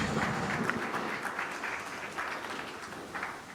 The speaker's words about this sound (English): Big applause, please.